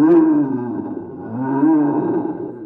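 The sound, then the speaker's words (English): A deep, rumbling roar of a great big bear fills the whole stretch, loud, with a slight swell and dip in the middle before surging again; no talking. “Or maybe a great big bear.”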